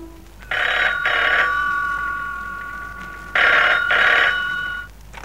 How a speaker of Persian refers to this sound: اومدم رو به خونه با دل افسرده و خون، باز دیدم زنگ میزنه مثل همیشه تلفن.